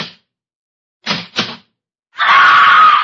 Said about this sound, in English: The beautiful stenographer in the insurance office is just coming to work. She's punching the time clock.